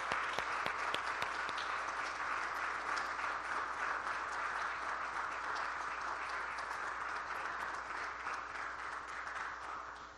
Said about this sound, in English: And of course, let's give her a round of applause here.